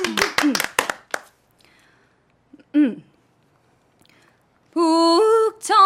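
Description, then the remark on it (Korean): A brief burst of a few sharp handclaps opens, fading within about a second, followed by a short vocal sound and then a long, steady sung tone of a sijo, a Korean classical verse song. “박수를 청해서 드릴까요?”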